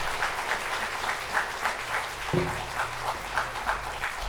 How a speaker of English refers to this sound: Y'all can clap if you want.